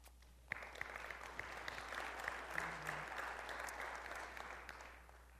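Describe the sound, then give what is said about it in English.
A round of applause from a crowd: dense, steady clapping that starts abruptly, holds at an even level for about five seconds, then thins slightly toward the end. “And I think we all owe ourselves a round of applause for jumping in feet first and doing this work.”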